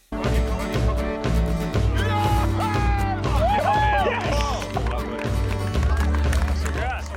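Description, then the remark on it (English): Loud, thumping music from Facebook promoting the launch of its enormous Aquila drone as it surges into the Arizona sky, with a deep pulsing bass, layered sustained tones and bright synth lines that rise and swoop over the top. “The sound of a literal launch there.”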